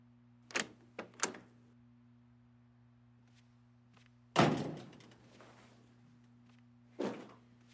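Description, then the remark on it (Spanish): A door is opened: a few sharp latch clicks, then a heavy thud with a brief rumbling tail and one more knock, over a steady low electrical hum. “si no le importa, ¿podría abrirme la puerta, por favor?”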